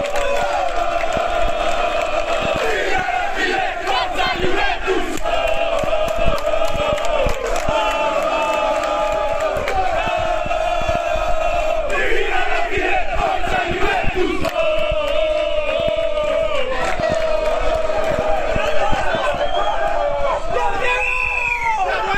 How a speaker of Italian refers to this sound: Anzi, noi saremo sempre con voi, hanno gridato i tifosi.